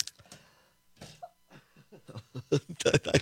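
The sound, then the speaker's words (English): A run of harsh coughs, starting with a couple of isolated bursts and building into a quick cluster of louder hacking coughs at the end. “I was trying to get to the sneeze button, so I didn't cough in everybody's ear.”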